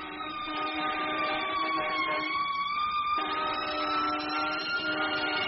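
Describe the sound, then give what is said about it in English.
A fire truck siren blares steadily throughout, a loud, harmonically rich wail whose pitch dips slightly and then rises again, with a low engine rumble beneath and no voices. “That was a fire truck.”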